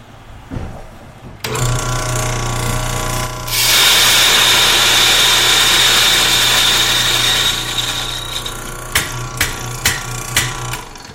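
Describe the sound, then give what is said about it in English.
An electric coffee grinder whirs into action, its steady motor hum rising to a louder, harsher grind for several seconds, then winding down with a few sharp clicks and taps at the end, grinding beans at setting 8 to a coarse-sand texture for a Chemex brew. “So as Christian gets set to grind that”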